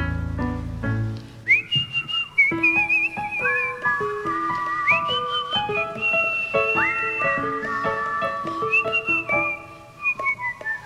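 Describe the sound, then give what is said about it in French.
A single person whistles a nursery rhyme, a simple, bright melody with the notes stepping and sliding in a steady sing-song rhythm, with no talking. “Je siffle alors une comptine en me disant tu es francophone.”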